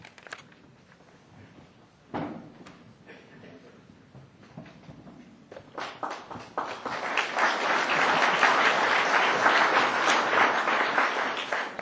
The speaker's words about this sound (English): I'm always pleased when people clap before I start to talk. Never sure whether you're going to be as happy when I finish.